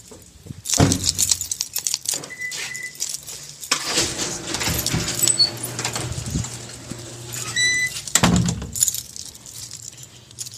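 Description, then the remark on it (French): A dog moves about, its collar tags jingling and paws tapping and scuffling, with a few louder bumps and rustles scattered over the stretch; no one speaks. “Tu vas faire gentil chien, sinon il y a papa.”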